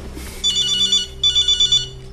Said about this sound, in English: He rings the number. In a different place, a hand reaches from a bed to the ringing phone.